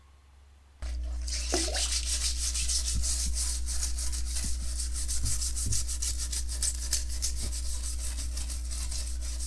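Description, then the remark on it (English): Vigorous scrubbing while cleaning up a house starts after a brief quiet moment and continues steadily in rapid back-and-forth strokes, a rough hissing friction over a constant low hum, with no voices. “First, you will hear scrubbing and then flushing the toilet.”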